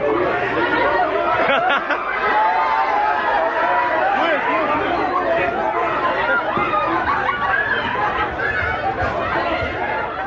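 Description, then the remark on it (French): A large crowd of people chattering as they board a train on a hot day, a dense, steady babble of many overlapping voices with occasional laughter, filling the whole stretch without a pause. “Non mais, ouais, ce que vous venez d'entendre, donc c'est une foule de gens de diversité prenant le train à la boule.”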